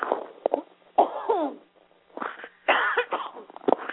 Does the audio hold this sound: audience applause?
no